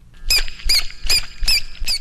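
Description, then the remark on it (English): A dolphin repeats short, high-pitched squeaky tones in a rhythm called a dribble, five evenly spaced chirps in a steady rhythm, each with a quick rising and falling pitch, over a low background rumble. “It's just a bunch of short tones that go on and on until we ask him to stop.”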